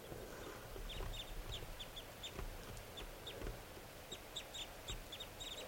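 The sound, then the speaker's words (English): A restless flock of wild birds call repeatedly in short, high-pitched bursts, clustered chirps and clucking notes coming in uneven groups over a steady low rumble of background noise, with no talking. “So recording the wild birds are calling some more. They're getting restless.”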